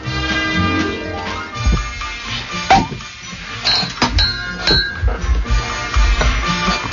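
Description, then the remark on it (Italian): Glasses clink together in a toast, several bright chiming taps scattered over a few seconds, set against a steady musical background. “Allora, un brindisi ci vuole, vero?”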